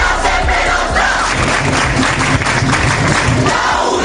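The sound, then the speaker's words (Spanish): Dozens of students barricaded inside the Faculty of Philosophy building of the University of Valencia on Avenida Blasco Ibáñez chant the slogan "la uni será siempre nuestra" in unison in a protest over Israel and Palestine, loud rhythmic shouting with a repeated cadence, voices massed together and sustained throughout. “Al grito, la uni será siempre nuestra. Decenas de alumnos se han atrincherado en el interior del edificio situado en la conocida avenida Blasco Ibáñez.”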